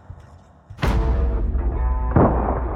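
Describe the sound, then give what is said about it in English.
Gunfire erupts after a brief quiet moment as guards fire their guns: a sharp, loud shot rolls into a long booming rumble, then a second blast follows a little over a second later amid the echoing din. “Gunfire. The guards were firing on a beast that come out of the star globe.”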